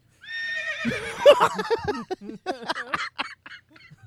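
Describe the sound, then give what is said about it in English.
A horse lets out one loud whinny, its high wavering cry sliding downward, then breaking into a series of choppy, sputtering bursts that trail off quietly. “get away from that horse.”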